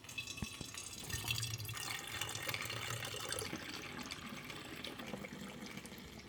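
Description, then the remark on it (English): Kombucha pours steadily into a glass bottle, filled until it approaches the neck of the bottle, a continuous splashing gurgle with small drips, without any talking. “So I pour it until it just starts to approach the neck of the bottle, so I've got enough room to add the ginger turmeric juice and then the lemon.”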